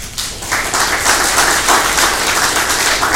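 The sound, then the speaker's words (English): An audience claps steadily in thanks to an organization serving Jefferson County and the surrounding counties, a dense, even wash of many hands that starts almost at once and holds at a constant loudness throughout, with no voices. “I applaud you.”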